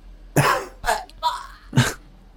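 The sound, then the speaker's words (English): A fairly loud bout of about four harsh coughs, unevenly spaced over two seconds, with a raspy, throat-clearing edge and no talking. “He's at the end of the mask where he keeps coughing in his face.”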